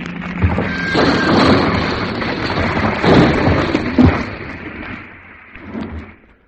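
A heavy, rumbling crash of a boulder hurled down a cliff onto the road of a mountain pass rolls on for several seconds, broad roaring noise punctuated by a few sharp thuds, then tapers off with one last smaller impact.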